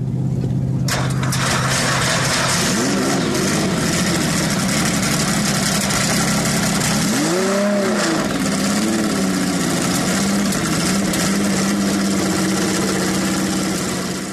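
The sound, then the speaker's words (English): A Porsche 917 race car with a 5.4-liter engine fires up and settles into a loud, rough idle, then revs several times with rising and falling pitch, dominant throughout. “Can you put into our show today the sound of a 917 starting up and revving?”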